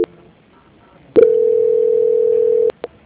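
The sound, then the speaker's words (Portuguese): A click, then a steady, mid-pitched telephone transfer tone as a call is transferred to quality control, holding evenly for about a second and a half before cutting off with another click. A faint tick follows. “Só um minutinho que eu já vou transferir a ligação.”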